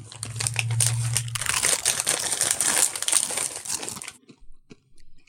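crunching Doritos tortilla chips

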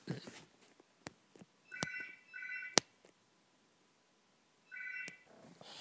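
telephone ringing

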